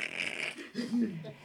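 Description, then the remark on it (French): A voice imitates dry leaves crunching in the woods at Tervuren at this time of year, with a breathy, crackly hiss lasting about half a second, then shifts into a short, low, voiced rumble. “Et les feuilles qui craquent à cette époque-ci de l'année, tu sais?”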